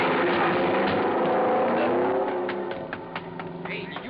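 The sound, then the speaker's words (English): A car engine roars and climbs in pitch, then a burst of sharp cracks and clattering as the driver, with police all around, drives the car right through the door of his garage, the noise thinning out toward the end. “He drove right through the door of his garage.”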